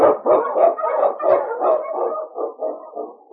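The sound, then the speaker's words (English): King, a husky sled dog and Eskimo lead dog, barks and yips in a quick, excited series of loud barks, repeating steadily with no pause, energetic and urgent, with no talking. “On King, on your husky!”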